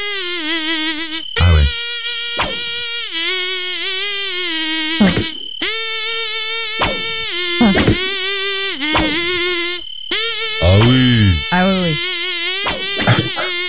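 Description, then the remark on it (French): A person hums a high, nasal buzzing whine that imitates a mosquito, holding steady tones broken by short sharp swoops and pauses, fairly loud with no other sounds. “As-tu un autre moustique à nous chanter?”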